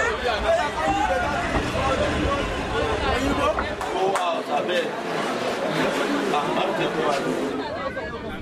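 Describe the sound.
Dense crowd chatter from the long line of people waiting to buy train tickets in Lagos, Nigeria, for the train to Kano, many overlapping voices murmuring and calling out, a steady busy hubbub with occasional sharper knocks and clatter.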